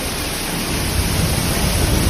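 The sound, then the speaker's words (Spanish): Heavy rain pours down in a dense, steady roar during a short, intense wet downburst in Nules, Valencian Community, mixed with blustery wind gusting close to 100 km/h that swells slightly at moments. Loud throughout, with no voices. “Podemos percibir casi a la par el sonido de la lluvia y también del viento, rachas por momentos cercanas a los 100 kilómetros por hora.”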